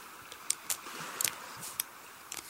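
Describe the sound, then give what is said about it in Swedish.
Quiet crunching as someone bites into a coated raspberry and vanilla ice cream from Tre Vänner, a handful of brief crisp cracks scattered over a couple of seconds, with no talking. “Varsågod, ta en tugga.”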